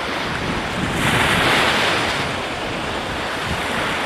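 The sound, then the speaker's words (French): Steady rushing ocean water surrounds the listener, swelling louder for a moment before settling, with wind buffeting the microphone and no voices, as waves wash past a moving boat carrying a passenger to another country. “Je suis immobile sur le bateau qui lui m'emmène dans un autre pays.”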